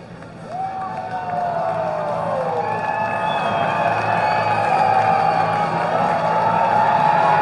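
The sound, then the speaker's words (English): A big baseball stadium crowd roars and cheers as the scoreboard shows Get Loud during a 0-0 game, a dense wash of voices that swells in the first second and then holds loud and steady to the end, with no one speaking clearly. “The Get Loud on the scoreboard at left, and the crowd is listening.”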